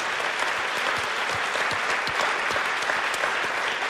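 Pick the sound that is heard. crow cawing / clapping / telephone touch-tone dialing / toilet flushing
clapping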